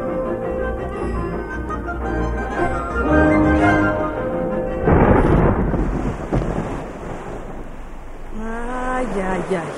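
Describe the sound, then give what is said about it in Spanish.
A loud crack of thunder bursts in midway and rolls into a deep rumble, set against sustained tonal sounds before it and brief voice-like sounds after. Thunder as a downpour is about to fall. “Resulta que va a caer un aguacero.”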